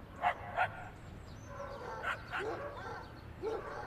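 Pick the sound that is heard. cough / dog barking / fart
dog barking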